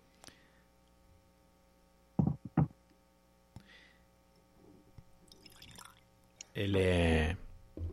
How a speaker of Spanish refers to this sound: con un dram, a tu permiso, me lo voy a servir. Totalmente. Yo voy a ver si puedo hacer más ruido que vos, que estoy más cerca del micrófono.